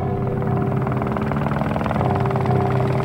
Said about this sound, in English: That's a medevac helicopter heading to the Pentagon to save lives, talking on the wrong frequency.